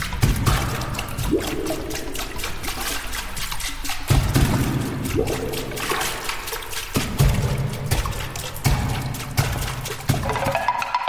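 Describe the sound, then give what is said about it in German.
A percussionist plays a water bowl: water sloshes and trickles in the resonant bowl while it is struck in quick, steady taps. Its ringing tones bend in pitch as the liquid moves. Fairly loud, and no one speaks. “Doch ihn interessiert auch der Klang von Dosen, Glas- oder Plastikgefäßen, von Holz- oder Wasserschalen.”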